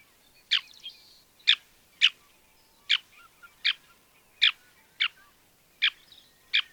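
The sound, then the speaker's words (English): A series of about nine sharp, high-pitched, shorebird-like call notes from small birds with a black band across the nose and breast and a white forehead, evenly spaced roughly every half-second to second, clear against a quiet background with no talking. “Well, they sound like a shorebird. All right, let's listen.”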